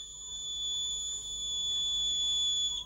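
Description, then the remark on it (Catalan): A ninja whistles: a single long, steady, high-pitched whistle held at an unwavering pitch for nearly three seconds, with a fainter upper overtone, then cutting off abruptly. No one speaks. “El ninja xiula.”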